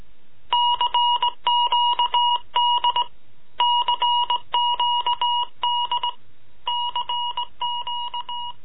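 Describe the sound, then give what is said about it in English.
A Morse code SOS tapped out in electronic beeps: bright, steady tone pulses in repeating groups of short and longer bursts, separated by brief gaps, with no voices. “Morse code SOS.”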